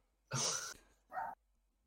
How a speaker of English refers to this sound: My dog won't shut the fuck up. Damn. Put him down.